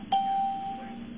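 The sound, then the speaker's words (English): A single phone-line beep: one steady, mid-pitched electronic tone that starts sharply and fades out over about a second, alone over a low background hum. “I hear another beep. Does that mean somebody's calling in?”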